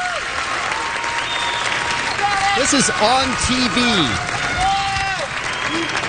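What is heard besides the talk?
crowd cheering and applauding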